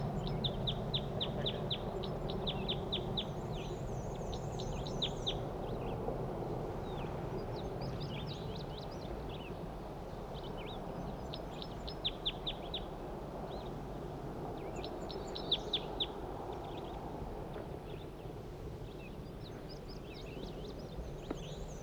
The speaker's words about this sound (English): That was a wild bird. Male.